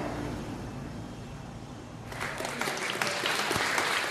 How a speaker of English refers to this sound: This is a microchipping party. An applause, yeah.